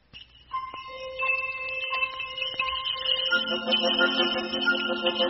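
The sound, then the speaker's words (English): Bells jingle and chime in bright, ringing tones that overlap and linger, building into a fuller, denser cluster of tinkling notes partway through. No one speaks. “Bells jingling.”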